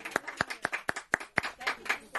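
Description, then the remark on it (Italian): An audience claps together in a steady, rhythmic beat, about four sharp claps per second, moderately loud, with a faint murmur of voices beneath; applause for the preacher's wife during a Christian sermon. “Un applauso anche la mia, perché anche lei è così.”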